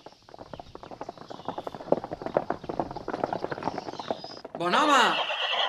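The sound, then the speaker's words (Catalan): Rapid clip-clopping hooves of a horse trotting, steady for several seconds, then a loud whinnying neigh with a rising-and-falling sweep at the end. “Corre, agafa el cavall que encara el podràs atrapar i digues-li que nosaltres també en volem 3 de desitjos.”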